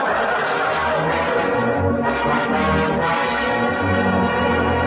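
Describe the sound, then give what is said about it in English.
The big bell of an old mission rings loudly and steadily in cold weather, five minutes before 1946, its deep strokes and lingering overtones blending into a continuous, reverberant clang, with no voices. “There it is, the big bell in the Robin's old mission there.”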